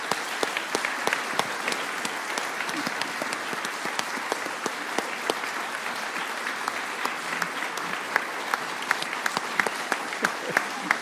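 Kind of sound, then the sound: crowd, audience applause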